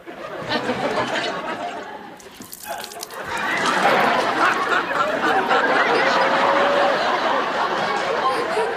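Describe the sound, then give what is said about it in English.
Water spills and splashes steadily for several seconds from a trick dribble glass, a continuous wet gush, with snickering laughter mixed in as it pours. “He fell for the old dribble glass”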